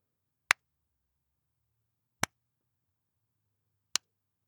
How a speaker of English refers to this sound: Now, three claps to test reverberation.